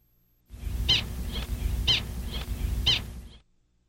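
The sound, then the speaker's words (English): A bird's alarm call reacting to an approaching hawk: five sharp, high-pitched notes in a steady rhythm, alternating louder and softer, over a low rumbling background hum. “Now let's hear the reaction to the approaching hawk.”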